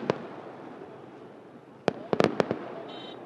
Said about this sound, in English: The booms echoing around the mountains are not from guns or missiles fired from drones, but from the festival's fireworks.